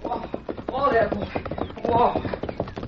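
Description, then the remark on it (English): Horse hooves clip-clop in a steady, rhythmic beat, moderately loud, as the youngster Billy rides up, with a voice briefly talking over the hoofbeats. “Me hear horse.”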